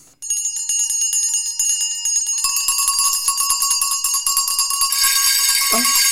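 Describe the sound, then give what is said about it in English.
A dense clamor of many small bells throughout a house ringing together, bright and continuous, building in intensity for several seconds with no voices present. “Every bell in the house must be ringing.”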